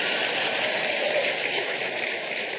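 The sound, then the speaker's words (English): An audience breaks into steady, dense applause in response to a speaker's joke about punctuating the sentence "a woman without her man is nothing", a continuous crackling wash of many hands clapping at an even loudness, with no one speaking over it. “I knew who would applaud.”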